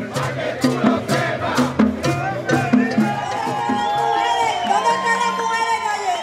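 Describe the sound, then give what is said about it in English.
A protest crowd in Puerto Rico chants in a steady rhythm, many voices hitting each beat together before swelling into long, drawn-out shouts, loud and sustained throughout; the protesters are saying this is their tradition, this is their culture. “And the protesters were all saying more or less the same thing. This is our tradition. This is our culture.”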